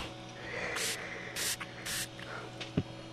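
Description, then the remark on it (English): Three short, hissing bursts of a throat spray pump, evenly spaced, each a quick sharp spritz over a quiet background, followed by a faint soft thump. “Let me get my throat spray out here. Here we go. Three shots.”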